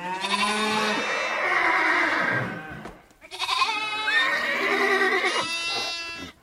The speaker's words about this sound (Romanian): Apoi, deschizând lada împreună, nenumărate herghelii de cai, cirezi de vite și turme de oi ies din ea, încât moșneagul pe loc a întinerit văzând atâtea bogății.